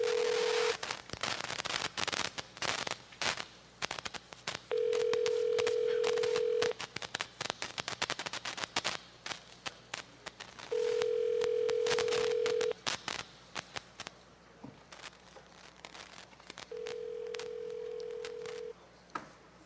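A phone rings on the line four times, each tone lasting about two seconds with long gaps between, over a crackly, noisy background while the call waits to be answered.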